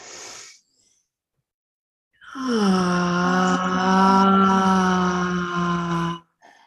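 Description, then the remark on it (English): During a guided breathing exercise, a short breathy intake, a pause, then one long, deep exhale breathed deep into the belly, voiced as a steady low groaning sigh that holds an even pitch for about four seconds before stopping abruptly. “And three more with an audible exhale, breathing deep into the belly, allowing the belly to expand.”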